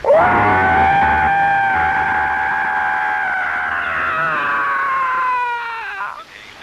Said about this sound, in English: I heard this fantastic scream. It's the kind of scream that they had at the horror movies